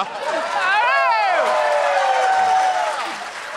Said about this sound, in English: Got the same applause that him walking got.